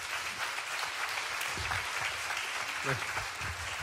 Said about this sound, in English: We're out of poppers. We're out of poppers, so just clap one more time.